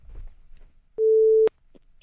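A single steady telephone ringing tone on an outgoing call sounds once for about half a second, loud and clear, over a quiet background with faint low rumble and no talking.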